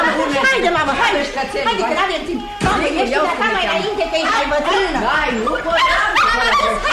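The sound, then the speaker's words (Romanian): A small pet dog, brought out onto a balcony as a street demonstration passes, yips, barks and whimpers almost nonstop, loud, with excited voices chattering over it throughout. “Stai, mă duc să-mi aduc și cățelul să-l ovaționeze și pe el.”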